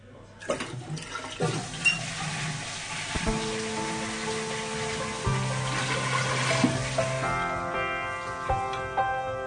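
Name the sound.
toilet cistern flushing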